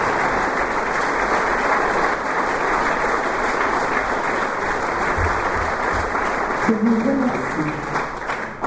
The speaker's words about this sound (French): Je voudrais que vous l'applaudissiez très fort et que nous associons à son applaudissement très fort.